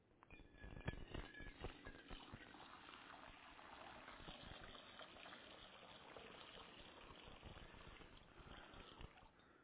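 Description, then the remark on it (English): Water pours out in a steady, splashing gush that runs for several seconds with a dense, bubbling texture and a few sharper splashes near the start. No voices are heard. “Listen to that pouring out of God's love.”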